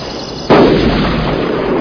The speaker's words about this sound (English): What are you shooting at over there?